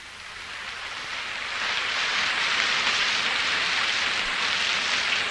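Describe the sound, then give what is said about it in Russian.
Steady, heavy rain pours down in a storm, a dense continuous hiss, swelling slightly louder after the first couple of seconds, with no voices present. “Но дождь и буря, казалось, не могли сравниться с тем, что бушевало у нее в груди.”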